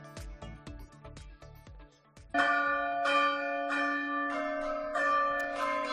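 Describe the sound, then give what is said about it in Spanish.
Church bells in Navarra, Spain, ring out a melody to warn the population of climate events such as heat waves or floods, starting with a quick run of separate strikes, then swelling into louder, overlapping peals that hum and ring on. Clear, with no voices. “Quédate con esta melodía, con esta sintonía, y es que estas campanas van a avisar y alertar a la población navarra de eventos climáticos como olas de calor o inundaciones.”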